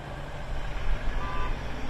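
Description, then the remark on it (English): Steady low rumble of heavy aid trucks rolling into Gaza through the Rafah crossing from Egypt, with a faint, brief high-pitched beep tone cutting through the engine noise partway through. No voices. “Aid trucks roll into Gaza through the Rafah crossing from Egypt.”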